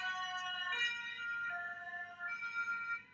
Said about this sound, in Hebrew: ברגע שהאמבולנס עבר אותנו, פתאום הדברים נשמעו אחרת. בואו רק נשמע את הרגע הזה שוב שבו הוא עובר אותנו. יש תדר אחד, ואז ברגע שהוא עובר אותנו, פתאום אנחנו שומעים תדר אחר.